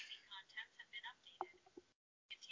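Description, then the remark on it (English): A phone's voice assistant talks in a thin, tinny voice for a couple of seconds, breaks off into brief silence, then starts up again. “My phone is talking to me.”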